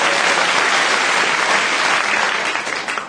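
An audience claps loudly and steadily for three game contestants as one dense wash of applause, with no break, and it starts to thin out in the last half second.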